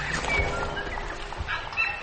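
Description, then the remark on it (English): Birds calling outdoors in New Zealand on a late Tuesday morning: a few brief, high chirps and whistles rise faintly over a steady wash of ambient noise and low rumble, with no one speaking. “They have completely different birds here.”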